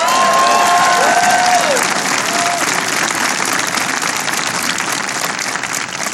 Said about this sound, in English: Give them a big round of applause. Please. And there are two people who couldn't make it here today, but they're doing a great job, and you should give them a round of applause as well, and that's Senator Ron Wyden and Representative Kurt Schrader.